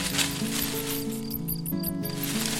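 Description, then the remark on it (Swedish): Mice rustle and scratch right at the tent opening in a continuous, busy hissing scuffle, steady and fairly loud, with low sustained musical tones humming underneath throughout. “Det prasslar och krafsar alldeles vid tältöppningen.”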